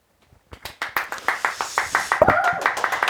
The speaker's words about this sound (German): Applaus, Applaus